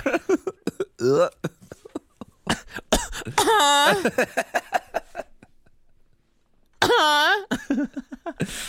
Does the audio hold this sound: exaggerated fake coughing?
yes